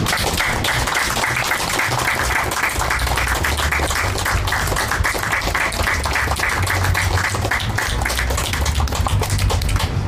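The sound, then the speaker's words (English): A crowd claps steadily for about ten seconds, a dense, even roar of many hands at constant loudness, with a faint low hum underneath and no voices. “Let's give Susan another hand.”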